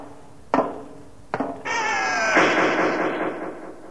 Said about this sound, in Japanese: あ、 ドアが閉まった。